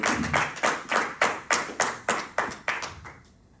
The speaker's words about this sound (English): But by his grace, I was able to get up and walk out of the hospital. I know you ain't gonna clap for it, but I'm gonna clap for it.